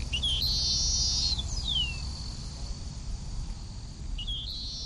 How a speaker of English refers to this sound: draped around her like two enormous bangles are these speakers that we use to amplify the sound of the sparrow to enrage any male who believes his territory has been violated.